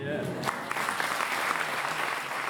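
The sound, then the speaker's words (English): An audience of fundraisers at a conference role-play exercise on asking the rich for money applauds steadily, a dense, sustained patter of many hands clapping at even loudness throughout, with no pauses or distinct individual claps standing out. “The applause was from an audience of fundraisers who are learning how to tease and cajole money from the rich.”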